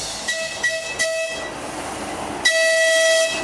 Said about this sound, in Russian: На конечную станцию под названием «Юность» прибыл поезд из электровоза и шести небольших вагонов. Он проделал 4-километровый путь и сейчас отправится обратно через дачный поселок Кратово к другой конечной станции под названием «Пионерская».